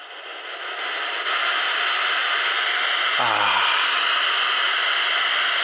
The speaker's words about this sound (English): Oh, let me see if I can show you what brown noise and air conditioner sounds like.